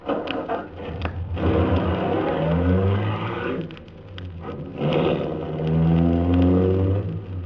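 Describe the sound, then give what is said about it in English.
An official MVD limousine's engine cranks and catches as the starter is pressed, then revs and pulls away with a rising, throaty hum that swells twice, fairly loud, with no voices, driving off through a city in the early morning. “The ignition keys were there. I got in quickly, stepped on the starter.”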